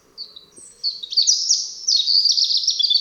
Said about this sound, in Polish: Rudzik jest jednym z najlepszych naszych śpiewaków. Jego zwrotki zwykle rozpoczynają się od kilku wysokich gwizdów, po których następuje krótki, melodyjny fragment pełen improwizacji i zapożyczeń.